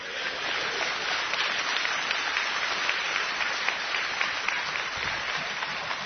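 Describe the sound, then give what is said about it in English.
A crowd applauds steadily for several seconds, a dense wash of many hands clapping at once with sharper claps popping out here and there, sustained at an even level throughout. “Listen to me, you're clapping, but almost every one of you has a youth ministry in your church that is operating unbiblically.”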